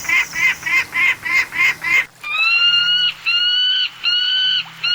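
A peregrine falcon calls loudly: a rapid run of about seven harsh, cackling notes, then several longer, drawn-out wailing cries, with no voices.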